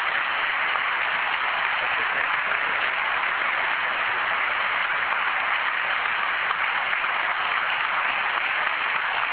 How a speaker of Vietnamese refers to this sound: Chúng con xin tạ ơn Cha, chúng con xin cúi đầu tạ ơn Cha, và chúng ta cùng nổ một tràng vỗ tay thật lớn để tạ ơn Chúa.